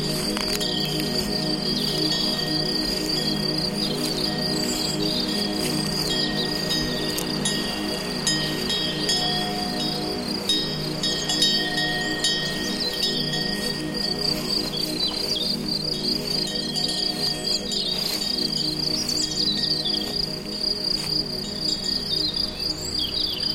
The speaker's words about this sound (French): Beaucoup de grillons, d'insectes. Le chant des oiseaux diffus.